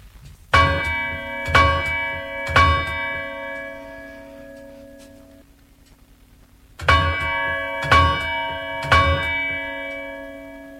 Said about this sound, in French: Ce sont les cloches de San Esteban. Personne ne sait depuis combien de temps elles sonnent. Elles étaient déjà là lorsque je suis venue au monde, et elles continuent à se lamenter pour tant et tant de choses.